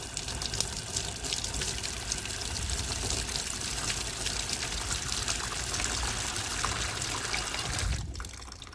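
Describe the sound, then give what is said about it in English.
Steady rush of water pouring into a bathtub, a continuous splashing hiss that holds for several seconds before abruptly stopping near the end. No voices. “See this little drain? See that? I'm going to put some water in here.”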